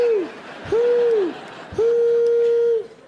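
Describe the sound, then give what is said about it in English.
Three loud, steady owl hoots, each a low sustained tone with a slight rise and fall, the last one drawn out longest, over a faint murmuring background. “This owl sounds like a train.”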